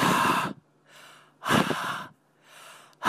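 A man blows hard breaths into a Breathometer breathalyzer sensor plugged into a smartphone, two long forceful exhales with softer inhales between and a third starting at the end, with a faint low hum underneath.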